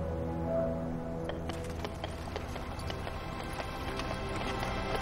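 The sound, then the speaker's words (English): Horse hooves clip-clop at a steady, unhurried pace as a carriage rolls along, the sharp clops starting after a moment over a continuous low rumble. “Brian appears, riding in on the carriage, now being driven by a horse.”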